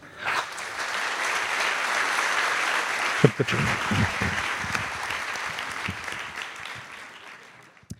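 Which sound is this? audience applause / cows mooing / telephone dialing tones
audience applause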